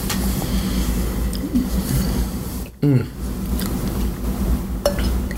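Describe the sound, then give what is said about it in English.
Wine pours into a second glass with a short rising glug, surrounded by light clinks of glassware and dishes over a steady background hum and murmur. “See, that one invited a second glass already.”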